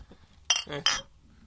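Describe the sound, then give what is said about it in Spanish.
Glasses clink together in a toast of "salud", two bright ringing taps in quick succession, fairly loud, with a brief murmur of voices between them. “No, vamos, salud.”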